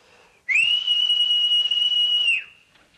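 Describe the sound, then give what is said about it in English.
A single loud, sustained high-pitched whistle blown into a telephone to clear static on a call from Tokyo, held steadily for about two seconds, with a sharp start and a slight upward slide at the onset, over a faint background hiss. “Oh, I'm sorry about that. It clears the static.”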